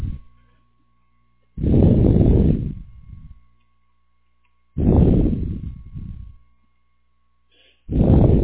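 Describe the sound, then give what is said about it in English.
Heavy, loud breaths rush into a telephone receiver, coming as three harsh bursts of noise about three seconds apart, each fading with a softer trailing exhale. No one speaks. “You're breathing in the phone.”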